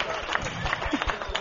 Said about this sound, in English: Give her a round of applause. Come on. Big one.